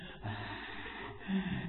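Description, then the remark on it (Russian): A voice imitates a horror-film monster's raspy, wheezing breath: a couple of drawn-out, rough, gasping breaths, fairly loud, with no words spoken. “Поэтому, заметьте, есть люди, которые так дышат с хрипом.”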